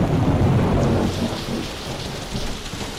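Steady heavy rain on a grey, rainy day hisses across the whole moment while a deep rumble of thunder rolls underneath, loudest at the start and slowly easing off. No voices.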